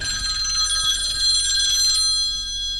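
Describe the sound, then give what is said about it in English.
A telephone rings steadily with a bright, sustained electronic trill of high tones, moderately loud, with no one speaking over it, as a friend calls; the ringing thins out near the end. “Now, somebody's calling me.”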